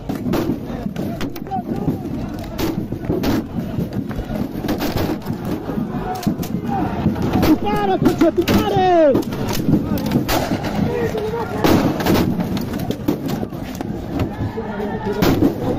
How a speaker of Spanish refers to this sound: A ver, escuchemos, sintamos un poquito lo que puede experimentar un policía en una protesta álgida. Por favor.